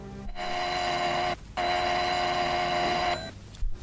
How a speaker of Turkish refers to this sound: Zili duymuyor olmalı.